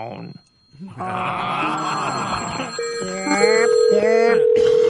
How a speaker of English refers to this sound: You know what's funny? You know she's looking at the phone. This keeps ringing.